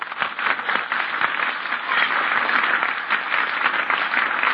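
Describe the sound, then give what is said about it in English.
A studio audience applauds steadily, greeting guest star Milton Berle, a dense crackle of many hands clapping at an even, fairly loud level for several seconds with no voices over it. “I was building up the applause sign there for the...”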